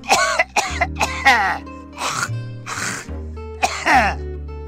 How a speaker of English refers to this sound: We lay there a while longer, holding hands in the cool tropical night breeze, watching the shimmering lights of long dead stars, and pretending we weren't listening to an old man drowning in his own phlegm.